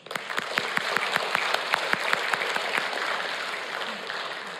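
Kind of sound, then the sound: crowd, applause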